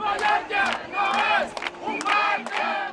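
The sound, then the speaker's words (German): Tens of thousands of locals protesting in the street on the Spanish Balearic island of Mallorca chant "Tourists go home" in rhythmic, shouted bursts, many voices rising and falling together in the repeated slogan, loud and continuous with brief swells between phrases. “Sie schreien: Tourists go home.”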